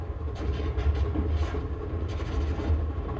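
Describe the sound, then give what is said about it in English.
A train on a ride from Manhattan to Hollywood rumbles steadily along the rails, a deep continuous low roar with faint rhythmic rattling and brief hissy bursts above it, consistent throughout. “He popped out of my mind onto a drawing pad on a train ride from Manhattan to Hollywood.”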